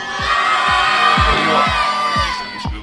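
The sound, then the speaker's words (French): A team of supporters shouts and cheers in a loud, continuous, dense roar of many voices, while deep drum thumps pound out a steady beat beneath it. “Oh non, il crie beaucoup plus fort la mienne équipe.”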